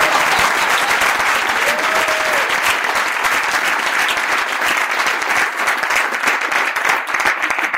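A crowd applauds guests introduced at an event about healthy, fulfilled living: many hands clapping steadily and loudly in a dense, continuous wash that holds at an even level for about eight seconds without pause.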